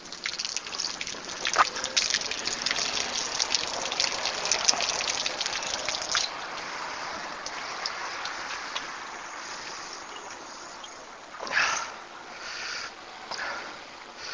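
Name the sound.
water running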